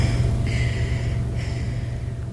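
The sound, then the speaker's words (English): Dancers gasp for breath after a stretch of frenetic dancing, two heavy airy inhalations in quick succession over a steady low rumble of background noise. “There are moments of frenetic activity, leaving them gasping for breath.”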